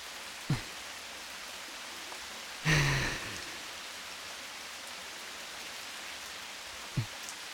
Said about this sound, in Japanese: 今日も雨だね。